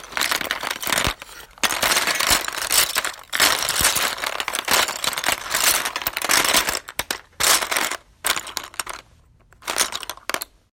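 Someone rummages through a box of their pencils, a busy clatter of small hard objects rattling and clicking together in irregular bursts with brief pauses between handfuls.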